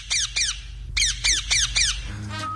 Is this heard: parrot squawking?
yes